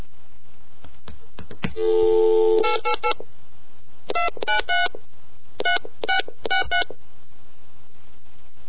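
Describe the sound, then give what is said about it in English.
A brief steady phone tone, then quick telephone keypad dialing beeps in two short bursts, each crisp and loud, with no one talking, as a number from a payphone information card is dialed. “So, let's give that one a call and see what the hell it is.”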